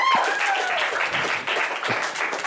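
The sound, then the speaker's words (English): A crowd breaks into sustained, dense applause for a performer that fills the whole moment, with a brief high whistle sliding downward near the start and no one speaking over it. “I'll give it one last time for Pamela Langston, everybody.”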